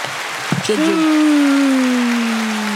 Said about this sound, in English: Wait, clap it up for people.